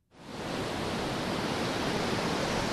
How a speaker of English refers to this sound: If there's a symbol of the ocean's raw power, it's the crashing wave.